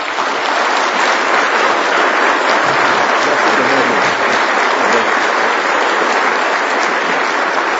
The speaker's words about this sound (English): But I think before we go, it would be appropriate in honoring the Lord, we don't typically do this, to applaud for someone who's been a blessing. But let's do that for